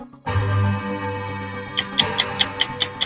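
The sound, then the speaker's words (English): A 60-second quiz round countdown music bed kicks in with a sustained synth chord, then steady, evenly spaced clock-like ticks join in about halfway through, fairly loud, with no voices. “Your time begins when Paul plays the music.”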